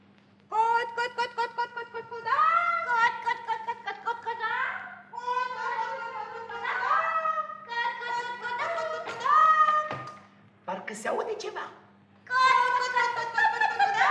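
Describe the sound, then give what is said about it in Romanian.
Children's voices imitate hens clucking, a run of bright, high-pitched, rhythmic clucks and cackles in several bursts with short pauses, fairly loud throughout with a faint steady hum underneath. “Parcă aud cotcodăcii de găini.”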